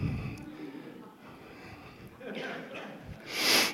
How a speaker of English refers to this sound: Sniffles and all.